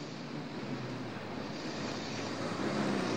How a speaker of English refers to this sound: As he continues on, another truck pulls out just behind him.